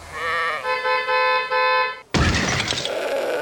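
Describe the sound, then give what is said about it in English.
A sheep bleats in a few quavering bursts, then is cut off by a sudden loud crashing impact as a bus hits it, with noisy debris fading after. “I think that sound was the sheep being hit by a bus.”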